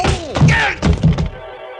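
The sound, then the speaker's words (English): The front of a gun strikes against the side of someone's head in a few heavy thwacks in quick succession, dull and loud, knocking the person to their knees, followed by a brief lingering ringing tone as the blows fade. “The front of his gun slapped against the side of my head, and I went down to my knees.”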